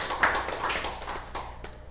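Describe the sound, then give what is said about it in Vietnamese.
An audience at a Buddhist dharma talk claps together in a dense, steady burst of applause that fills the whole two seconds, loud with no talking over it. “Xin quý vị vỗ tay một tràng pháo tay.”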